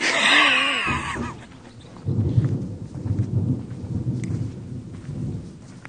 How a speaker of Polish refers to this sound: Zaczęło kropić i to jest to doświadczenie, które w mieście jest niepożądane, bo się otwiera parasole, a tutaj dopóki nie leje jak z cebra, to można się cieszyć deszczem.